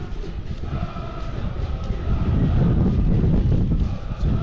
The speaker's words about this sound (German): So, jetzt fliegt mir hier gerade der Kollege neben der Feld, da hängt alles auf. Also das ist ein Wind hier, Freunde.